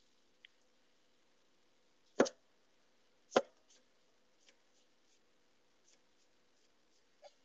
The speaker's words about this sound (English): Okay. Can you hear the chopping sounds?